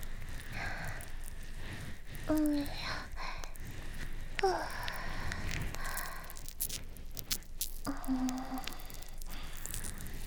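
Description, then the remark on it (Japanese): Continuous fizzing crackle of foam bubbles popping in a dense, irregular patter, with a soft voice murmuring briefly over it. “泡がパチパチする音って不思議と癒し効果ありますよね。”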